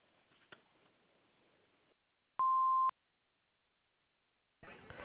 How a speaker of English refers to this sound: You need to leave a message, leave it at the beep, please.